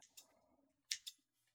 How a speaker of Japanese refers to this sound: ハサミの手つき上手でしょ。